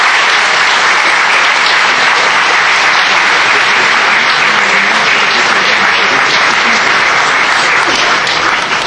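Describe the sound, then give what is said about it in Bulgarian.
Sustained applause from the ABV parliamentary group welcoming guests, a dense steady wash of many hands clapping at full loudness for about nine seconds with no pause or speech on top. “Парламентарната група на АБВ да ги посрещне с аплодисменти.”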